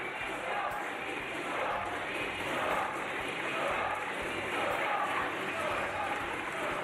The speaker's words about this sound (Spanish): La intervención de Delgado ha provocado los aplausos de la bancada socialista y gritos de dimisión de los populares